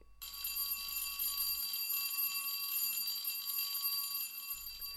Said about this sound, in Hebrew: אבל לפני הכל, נשים את הפתיח הלא אהוב של פעמון בית הספר.